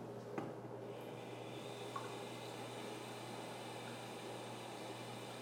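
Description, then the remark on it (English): Hot water runs steadily into a bathtub, a soft continuous rushing hiss over a low hum, with a couple of faint clicks early on and no voices. “I'll just turn on the hot water and fill the tub.”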